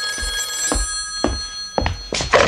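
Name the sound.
telephone bell ringing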